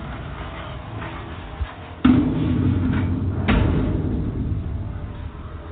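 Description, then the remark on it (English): A front door bangs shut twice, two sharp knocks about a second and a half apart, over a steady low rumble of background noise. No one speaks. “I better go in and shut the door.”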